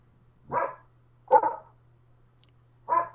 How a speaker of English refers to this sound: Those are my hunting dogs. Shut up! Sorry.